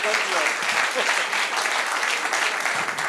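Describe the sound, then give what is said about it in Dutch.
Loud, sustained applause from a large audience welcoming a guest psychologist, a dense steady wash of clapping filling the whole stretch without pause. “Het applaus waarmee u verwelkomt is overweldigend, waarmee u verwelkomd wordt.”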